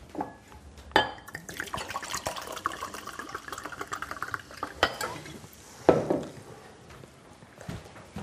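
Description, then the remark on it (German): Water is poured from a nearly empty bottle into glasses, a steady liquid trickle with sharp clinks of glass at the start and midway, with no talking. “Willst du auch ein Wasser? Ja, bitte.”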